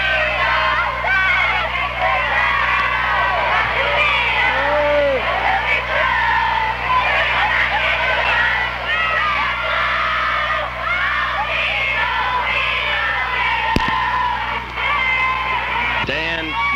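A large crowd of fans sings and cheers together, a loud, continuous wash of many high-pitched voices with shrieks and whoops rising out of it, steady throughout with no single speaker.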